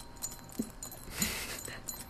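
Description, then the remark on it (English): Metal zipper pulls on a sweater jingle and clink as the garment is shaken by hand, a busy rattle of small chiming bursts, loudest midway through, with no one talking. “Far too many zippers zipped on this clothing device. Chingling, not by the wind, by my hands.”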